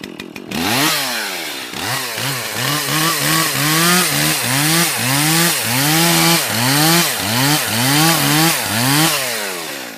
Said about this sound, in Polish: No to jest właśnie pilarka, która służy mi do zarabiania na chleb, a także do tej zabawy z tym drewnem.